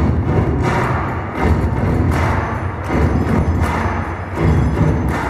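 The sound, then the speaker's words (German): A large group of students at the floorball World Championship in the Wankdorfhalle, Bern, claps and stomps in unison along to a song they know, beating out a loud, steady, repeating rhythm of heavy thuds and sharp claps, with no talking. “Die Schüler klatschen zu einem Lied, das sie kennen,”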